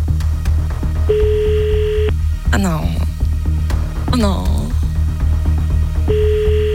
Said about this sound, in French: Je vais appeler maintenant un numéro au hasard et laisser le téléphone sonner exactement 3 fois, 3 bips. C'est parti. Premier bip.